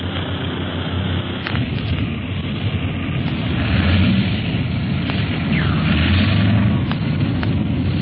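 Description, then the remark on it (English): A large airplane comes in for a rough landing in a strong wind, its engines a steady, heavy roar, broken by several sharp jolting thumps as it bumps down to a three-point landing. “Harder to land this big ship than the old pursuit planes in a wind like this.”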